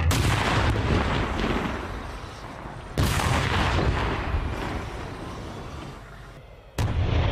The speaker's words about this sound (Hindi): तभी अचानक सीटी की आवाज करता हुआ एक गोला उनके टैंक के कपोला को भेदता हुआ निकल जाता है।